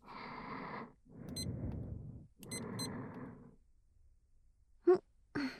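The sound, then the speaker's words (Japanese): A kitchen timer being set: two quick clusters of short, high-pitched beeps over rustling handling noise, followed by a pair of sharp button clicks near the end. No one speaks. “じゃあ先輩、タイマーセットしますね。”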